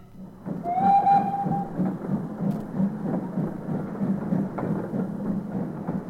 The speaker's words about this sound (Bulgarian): Срещнаха влак, който вървеше по същата линия. Техният влак отиваше натам, другият влак идваше насам. Срещнаха се и се разминаха.